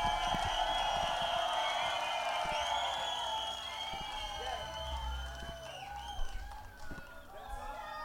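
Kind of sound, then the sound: crowd, crowd cheering and applauding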